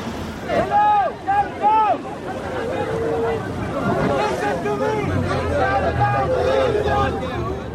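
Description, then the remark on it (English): Many voices shout and call out together over steady wind and the churn of a boat engine on open water: an overcrowded blue rubber boat packed with teenage boys in distress approaches a rescue vessel of the aid group SOS Mediterranee. The crowd noise is continuous. “An overcrowded blue rubber boat is approaching, packed with what look like teenage boys.”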